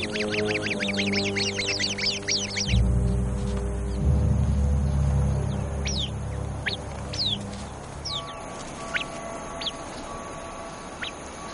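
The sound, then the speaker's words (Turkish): A rapid, insistent series of sharp alarm calls from a sentinel Arabian babbler warning of a viper, then sparser chirps from other birds of the group, all over a steady low musical drone. “Nöbetçi Arap kuşu hemen alarm verir.”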